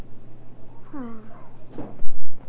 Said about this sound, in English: Door. I heard that door.